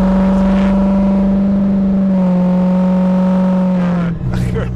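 A diesel truck engine roars, a loud, steady rumbling drone that shifts pitch slightly midway and surges as it revs near the end.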